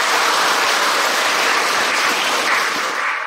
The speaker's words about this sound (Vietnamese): Cho các em một tràng pháo tay.